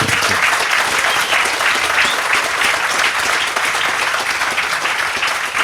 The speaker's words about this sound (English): I think we give him a big applause again.